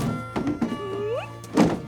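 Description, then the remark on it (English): A woman drags a cool box down the front steps of a log cabin-style house at the edge of woods and loads it into her Jeep: a couple of dull thunks, a rising plastic squeak as it slides, then a final heavier thump over a steady low hum. “She drags a cool box down the front steps and loads it into her Jeep.”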